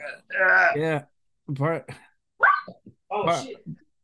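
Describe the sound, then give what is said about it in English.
A dog named Louie, a big 100-pound dog, barks and yelps in four short, loud bursts with brief pauses between them. “I scared your dog.”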